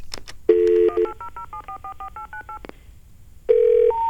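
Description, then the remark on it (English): A string of quick touch-tone beeps as a toll-free 1-800 number spelling out the dog breed Shih Tzu is dialed, each short dual-pitched tone following the last in a steady rhythm, framed by a couple of longer, lower tones at the start and end. “1-800-Shih Tzu. S-H-I-H-T-Z. And we're going to use 9. U. Here we go.”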